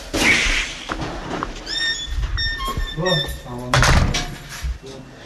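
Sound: door being closed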